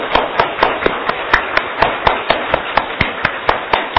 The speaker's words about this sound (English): Give a good clap. You know, this is hand reflexology. When you clap, it's not just happiness, it's also your massage, your internal organ.